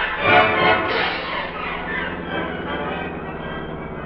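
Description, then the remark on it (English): A steady, droning plane motor runs loud, a brief surge early on settling into a continuous rumbling roar with no voices, as the plane is about ready to take off. “The motor of a plane that's about ready to take off.”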